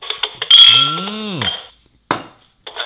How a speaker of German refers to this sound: Lass uns doch mal Prost sagen hier. Ja, cheers. Cheers. Ja. Ich stoß mal hier mit meinem Glas an.